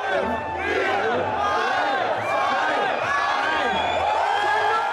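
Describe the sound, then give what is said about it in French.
Hundreds of people at the Brandenburg Gate in Germany shout and cheer just before midnight, counting down to April 1 when the cannabis legalization law takes effect; many overlapping voices form a loud, steady roar for the full five seconds, with a low rumbling undertone. “Des centaines de personnes étaient rassemblées pour fêter ce changement législatif en Allemagne.”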